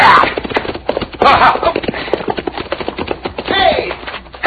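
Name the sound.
horse hooves galloping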